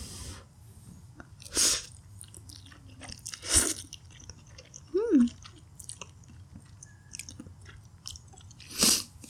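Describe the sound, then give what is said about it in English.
Chewing of instant noodles, with four or five sharp, crisp crunches spaced a second or two apart over a quiet background; no one speaks. “Anyway, and then go in with some of the... some of the instant noodles.”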